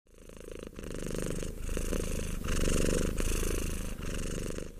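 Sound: domestic cat purring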